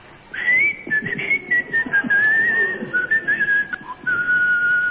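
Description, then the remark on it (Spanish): Someone whistles a meandering, unhurried tune through their teeth while carrying a bag of potatoes on the shoulder, leaning slightly, steady for several seconds, the pitch sliding gently up and down with no talking. “Y me la llevo al hombro, un poco inclinado así, chiflando, entre dientes.”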